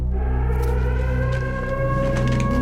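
A civil defense siren wails loudly and steadily, its stacked droning tones holding for the whole stretch with a slight shift in pitch partway through. No voices are heard.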